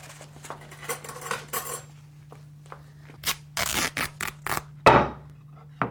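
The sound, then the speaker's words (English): Someone rummages through a kitchen drawer of utensils for scissors or a kitchen knife: irregular metallic clinks and clatters, a few sharper bursts near the end, over a low steady hum with no talking. “Get me a pair of scissors or a kitchen knife.”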